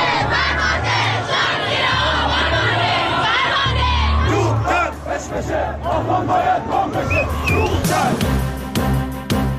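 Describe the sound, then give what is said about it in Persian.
A large protest crowd in the streets of Khuzestan, Iran, chants and shouts together in loud, rhythmic bursts of many voices, with whoops and yells rising over a steady roar; the chanting stays dense and energetic throughout. “مردم خوزستان در همبستگی با مردم آبادان شب گذشته به خیابان‌ها آمدند.”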